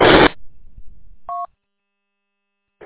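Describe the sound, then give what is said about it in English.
A single short touch-tone dialing beep sounds clearly after a brief burst of loud static-like noise, then silence follows. No one speaks. “Guys, I got to take a phone call.”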